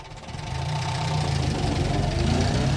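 A car engine runs steadily with a low, throbbing rumble and a slight knocking pulse, loud, building a little in the first half-second and then holding level, as a man sets off in his car one evening toward Adorf, called by the Korbach police to a deer collision. No one speaks.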